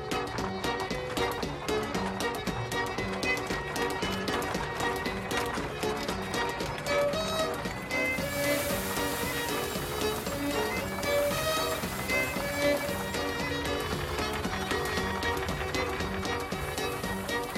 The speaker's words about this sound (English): But the ancient, back-breaking practice of flailing the grain to remove it was soon replaced by a much faster invention, the horse-powered threshing machine.